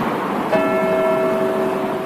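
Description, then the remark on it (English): A church bell in Liverpool strikes once, rung as a sign of respect on the day the inquest verdicts come in. Its deep, resonant tone hangs in the air, ringing steadily over a constant background wash of outdoor noise. “People listening to these bells ring out, knowing that they mean one thing: justice has been served for the 96.”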